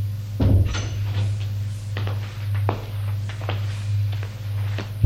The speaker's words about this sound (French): Il sort de l'ascenseur. Long couloir. Ouvre une porte de chambre. Entrez, monsieur. Il entre.